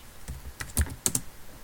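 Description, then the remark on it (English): A handful of quick keyboard keystrokes clack in an irregular burst, sharp clicks with a couple of louder taps, and no voices. “Just give me the keyboard.”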